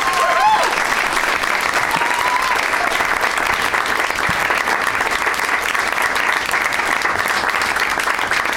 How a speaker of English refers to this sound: One more round of applause for all of my guests, Graham Elwood, Ryder Strong, and Jeff Tate.